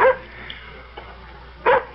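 A dog barks at the door in short, sharp bursts: one at the start and two close together near the end, loud, with a couple of faint yips in the quiet gap between.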